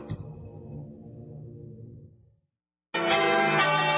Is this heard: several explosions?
no